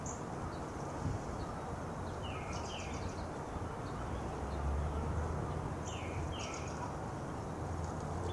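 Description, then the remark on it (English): Faint bird calls chatter outdoors at sunrise on a morning near spring in Franklin, Massachusetts, in short bursts of high chirps, some falling in pitch, over a steady wash of wind and low rumbling background noise. “The birds chattering.”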